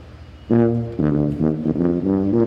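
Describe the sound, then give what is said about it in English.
A tuba played in a car tunnel, the 'tubatorium', honks a short run of loud, low, blaring notes that echo, one sustained tone followed by several quicker ones, with no talking. “They're the parade, but I'm the music and I'm in the tunnel, the tubatorium. All right, play us out. We got to get him honking here.”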